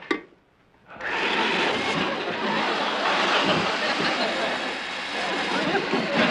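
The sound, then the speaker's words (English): A short knock, then an electric drill starts up and runs loudly and steadily for about five seconds, a constant grinding whir with no pauses. “That's an electric drill.”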